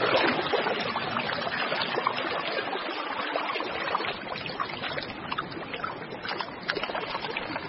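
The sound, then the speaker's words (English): Steady rushing and gurgling of a freshwater stream flowing through a forest, a continuous wash of water that holds an even level from start to finish, with no voices. “A freshwater stream through the forest makes a handy highway for a parent penguin heading home from a fishing trip with a crop full of food.”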